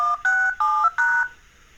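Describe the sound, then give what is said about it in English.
Four quick phone keypad DTMF tones beep in an evenly spaced sequence, each a short steady dual-pitched electronic tone, clear, followed by a brief quiet tail with no voices; a phone contact's automated dialing sequence logging into a work voicemail system at Vision Australia. “automatically dial in and log into my voicemail at work”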